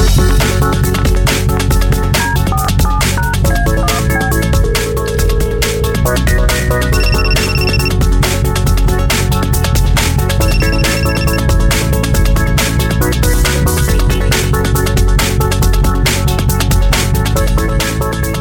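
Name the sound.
telephone ringing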